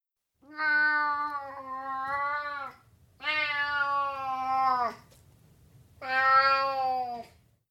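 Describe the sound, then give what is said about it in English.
A cat meows three times in long, drawn-out, plaintive cries, fairly loud, with short pauses between each call and no talking. “There's a cat.”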